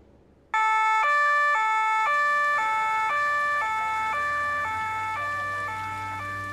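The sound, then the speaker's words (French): Several police cars with loud sirens encircle an old building on a blocked street. The sirens suddenly blare, alternating rapidly between two tones in a steady hi-lo pattern, sustained with faint road rumble beneath. “Plusieurs voitures de police encerclèrent le vieux bâtiment.”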